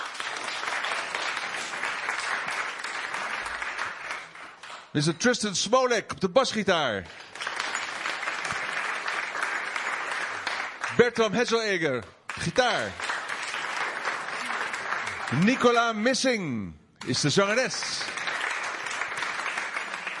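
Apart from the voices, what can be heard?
audience applause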